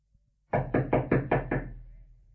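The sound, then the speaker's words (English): Six loud, heavy knocks on a wooden door in quick, even succession, with a short resonant decay after the last blow and no voices. “You needn't break the door down.”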